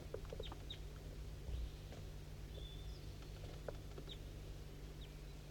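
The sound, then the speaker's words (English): A wild bird down a hollow to the west calls on a foggy morning at 8:15 a.m., with a few short, high clucks and chirps spaced irregularly, plus one drawn-out whistle-like note, all faint over a steady low hum; no one speaks. “I'm pointing towards a wild bird. It's down the hollow.”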